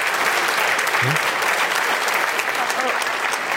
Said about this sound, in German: So, jetzt der Applaus.